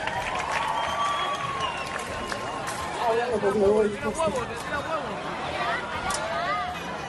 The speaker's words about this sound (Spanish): ¡Un aplauso para Brian!